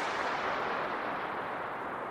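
A gunshot's long reverberant tail fills a long underground tunnel, a broad rumbling wash of echo that stays loud and steady without fading, with no voices; the echo reverberates for two minutes, a record for the world's longest echo.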